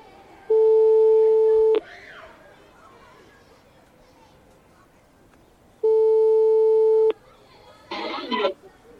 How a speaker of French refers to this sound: Appel en cours.